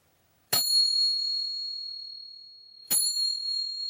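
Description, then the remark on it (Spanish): Two bright metallic strikes of small Turkish finger cymbals of the kind dancers use in their dances, played slowly about two and a half seconds apart, each a sharp high ring that sustains and shimmers, with no voices. “En un momento, toqué estas pequeñas percusiones turcas que usan las bailarinas en sus danzas, pero yo las toqué de una forma más pausada para dar el tiempo de imaginar.”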